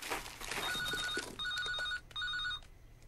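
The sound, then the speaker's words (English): A telephone rings in repeated electronic bursts, three short trilling pulses, from inside a mother's enormous bag, found in a brown paper bag of biscuits, with rustling and clattering noises underneath at the start as it is searched for. “Millie searches for the phone in her mother's enormous bag.”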